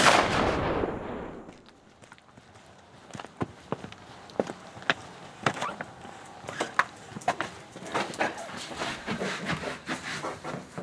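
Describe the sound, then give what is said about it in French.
A loud gunshot blast from a double-barrel shotgun rings out and fades, followed by a scattered series of sharp metallic clicks and clacks as the break-action barrels are unlocked and tipped down and a cartridge is loaded by hand into each of the two chambers. “Le déverrouillage des canons et leur basculement vers le bas. L'introduction manuelle d'une cartouche dans chacune des deux chambres.”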